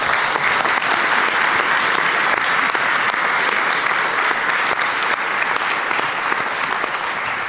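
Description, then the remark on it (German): An audience applauds steadily for several seconds, a dense wash of many hands clapping at a fairly loud, even level with no talking over it. “Und ja, aber erstmal gibt es einen kleinen Applaus bitte”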